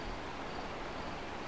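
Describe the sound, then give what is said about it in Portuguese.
A dense, steady chorus of frogs croaking, many calls blending into a continuous rasping texture at a low, even volume, with no voices present. “O achar da rãs.”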